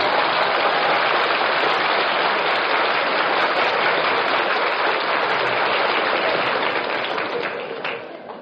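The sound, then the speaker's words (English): Steady rain of an April spring shower pours down in a dense, even hiss of countless drops, holding at the same level throughout and thinning slightly only at the very end. “It's an April shower.”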